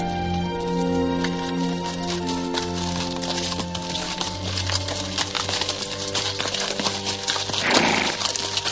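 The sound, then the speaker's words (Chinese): Horse hooves clip-clop in a steady rhythm as a horse-drawn carriage carrying Chen Duxiu rolls through Beijing on a hot, windless September day, with a low rumble of wheels underneath and a brief burst of noise near the end. “李大钊说， 钟福，上马车。”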